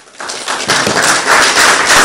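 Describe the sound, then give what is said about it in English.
A crowd breaks into applause to welcome Dr. Kingsley Kulugu, CEO of the Environmental Protection Agency, to deliver a keynote address. Many hands clap in a dense, crackling wash that swells quickly and stays loud and steady to the end, with no voices standing out. “Please, let's keep clapping.”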